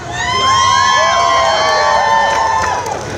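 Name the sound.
crowd cheering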